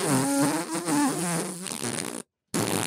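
A loud, drawn-out fart with a buzzy, wobbling pitch lasts a couple of seconds, breaks off into a brief silence, then a short noisy burst follows. No talking.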